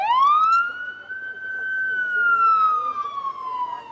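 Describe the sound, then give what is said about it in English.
A loud emergency vehicle siren wails on a city street in South Los Angeles, its pitch rising and holding in one long sweeping tone before slowly falling, with low traffic rumble underneath. “Sirens and gunshots are the soundtrack of South Los Angeles.”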